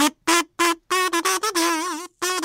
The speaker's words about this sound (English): I'm guessing you won't be able to know by hearing it. It's pistachio shells.